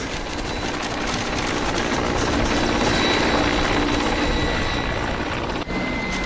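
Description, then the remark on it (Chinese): A helicopter hovers overhead, following a team running through the jungle. It drones loudly and steadily, its dense rotor and engine roar filling the whole clip, with a brief dip near the end and no voices. “直升机在空中盘旋着”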